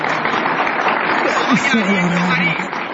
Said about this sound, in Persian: لطفا تشویق بفرمایید.